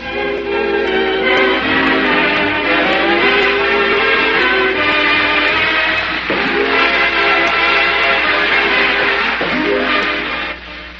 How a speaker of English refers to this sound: And there's a friendship train coming your way.